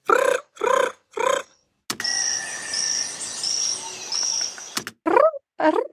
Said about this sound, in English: Okay, that's a poison frog, you said? So it's the scientific name is Epipelobates bollengeri. The dorsum is like reddish, brownish. And what is peculiar about this frog is that it carries the tadpoles on its back.